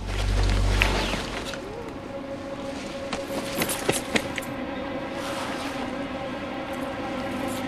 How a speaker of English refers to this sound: He laughs, then sees Jack's green trench coat hanging on the tree. He lifts the coat and hears Jack's keys jangle in the pocket.